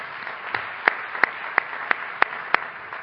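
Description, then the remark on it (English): A conference audience applauds CSTE headquarters staff as they stand, a steady crackling wash with a few louder, evenly spaced claps standing out in a brisk rhythm. No one speaks. “So if staff could please stand, we'd love to give you a round of applause.”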